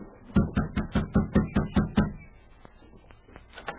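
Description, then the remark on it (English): Eight firm, evenly spaced knocks on a wooden cabin door land in a quick steady rhythm, then stop, leaving only faint background noise. No one speaks. “Better knock on the door instead of calling out.”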